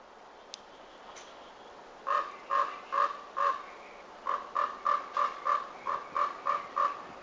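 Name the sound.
raven calling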